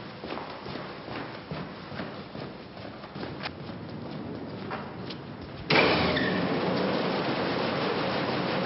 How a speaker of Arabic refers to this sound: اذهب وقم بتشغيل محركات المعمل.